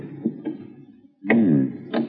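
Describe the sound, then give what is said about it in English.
A door on the second floor: its handle clicks and rattles twice, then the door swings open with a loud, wavering creak, ending in another sharp click. “I'm going to try the door.”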